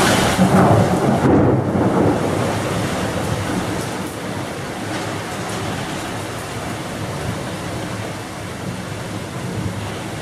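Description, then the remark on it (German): A thunderstorm played from a short video, with a deep, heavy rumble of thunder that swells early and slowly fades, over a steady wash of rain. Loud, with no talking. “So, ich habe euch einfach mal ein paar Blitze mitgebracht in einem kleinen Video.”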